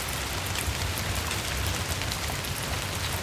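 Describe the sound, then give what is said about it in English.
Steady rain patters on a hard surface, a dense, continuous hiss of drops with no pauses, moderately loud throughout. “When it rains, stormwater flows through the watershed, collecting nutrients, bacteria, and chemicals.”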